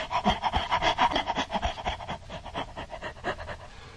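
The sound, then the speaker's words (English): A thirsty dog that wants water pants rapidly and steadily, a rhythmic series of breathy, raspy huffs that continue without pause for several seconds. “Dog is thirsty. He wants some water.”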